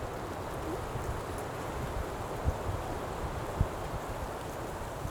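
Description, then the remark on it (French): A steady, soft wash of wind rustling through trees in a fir forest, continuous and even throughout, with a couple of faint low thumps along the way and no voices. “Au son qui émane de la nature, comme aujourd'hui, oui. le vent là qui bruisse dans cette sapinière?”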